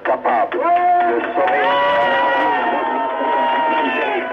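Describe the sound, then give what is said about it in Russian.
A large crowd at a demonstration in Algiers roars and shouts continuously, with sustained chant-like voices rising above the din, on a muffled, narrow-sounding archival recording from 1957 of General Massu addressing the crowd after insurgents seized the radio building. “Захват дома радио в Алжире восставшими и обращение генерала Масю к толпе, 57-й год.”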